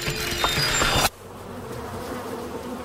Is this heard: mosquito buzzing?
yes